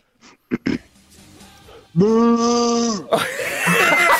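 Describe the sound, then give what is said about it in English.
A man gives a loud, drawn-out imitation of a cow's moo lasting about a second, after a few short vocal sounds, and then a burst of loud, noisy sound follows. “Give us a big old moo, mate, as our 41st cow.”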